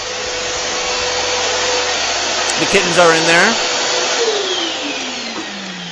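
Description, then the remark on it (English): A vacuum sucks the air out of a bag holding live kittens, with a loud, steady whooshing roar that runs the whole time. A voice speaks briefly over it near the middle. “He sucks all of the air out, and then you just hear the kittens gasping for breath, and then they die.”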